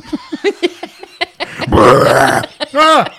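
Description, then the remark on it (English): A long, loud, rumbling burp drags on for nearly a second, sandwiched between short bursts of talking and laughter from people. “Not with the burping.”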